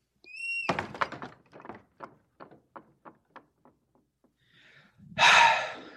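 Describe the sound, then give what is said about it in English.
A door shuts with a solid thud after a brief ringing chime, followed by a series of quick rattling knocks that fade out, then a loud breathy gasp. “Close the door.”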